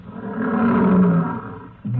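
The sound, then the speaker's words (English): Lions roar in a deep, rumbling growl that swells loudly and holds for over a second, then a second roar begins as the first fades. “Oh, here come the lions.”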